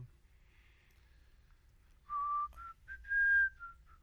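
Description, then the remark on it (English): Someone whistles a few bright, clear notes of "Hail to the Chief," rising and falling in pitch across a couple of seconds over a low background rumble. “Hail to the chief. That's what that is.”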